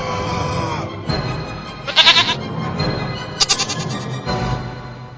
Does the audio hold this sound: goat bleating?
yes